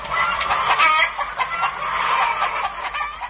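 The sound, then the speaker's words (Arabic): A flock of chickens clucks continuously and fairly loudly, with overlapping calls forming a busy, steady chatter and no one speaking. “كم هو عدد الدجاج في العالم؟”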